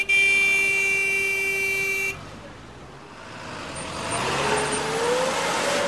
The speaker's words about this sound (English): As he negotiates Bogota's rush hour traffic